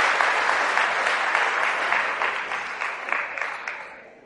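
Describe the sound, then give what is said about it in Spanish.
An audience applauds steadily, a dense wash of many hands clapping at an even loudness before gradually thinning out and fading near the end. No one speaks over it. “Esos hombres y mujeres son unos héroes y merecen un cariñoso aplauso.”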